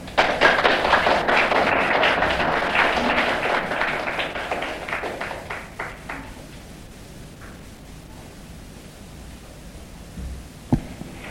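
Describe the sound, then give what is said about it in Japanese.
Audience applause for a lecturer after a lecture: a dense, steady burst of many hands clapping that gradually thins and fades over about six seconds, leaving a few scattered claps and a single sharp thump near the end. “皆様、久保田先生にもう一度盛大な拍手をお願いいたします。”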